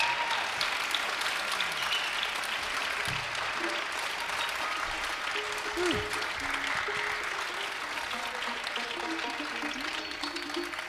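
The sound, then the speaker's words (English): A crowd claps steadily for about ten seconds, a dense, even wash of applause with a few faint whistles and cheers rising above it, after a band's song in a concert hall. “We really appreciate the applause here and the welcome.”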